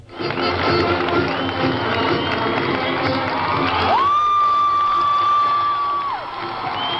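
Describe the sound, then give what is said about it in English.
A large crowd cheers and shouts steadily in the streets of Vancouver as Rick Hansen ends his Man in Motion marathon, a dense wash of voices, with a sustained high whistle or whoop rising above the noise for about two seconds near the end. “Today, with cheering crowds filling the streets of Vancouver, Hansen finally ended his Man in Motion marathon.”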